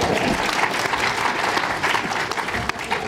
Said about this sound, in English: That was a desultory clap